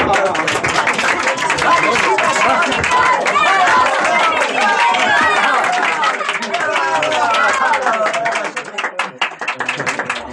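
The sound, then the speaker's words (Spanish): Spectators at the end of a sporting contest clap enthusiastically for the winner Calimán, a dense, loud patter of many hands mixed with excited crowd voices and chatter, continuing steadily and growing slightly sparser toward the end. “Los espectadores aplauden con entusiasmo.”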